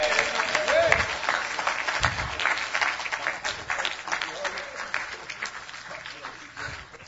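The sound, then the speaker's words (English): A church audience applauds steadily for several seconds to give praise and glory to God, a dense, sustained wash of many hands clapping, loud, with faint voices mixed in. “Come on, put your hands together and give God glory!”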